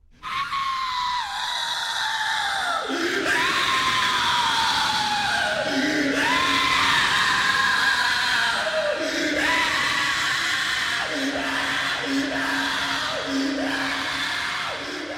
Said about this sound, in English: Haunting screams, indeed.